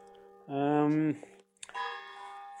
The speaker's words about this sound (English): The church bell goes off here in the little town I am.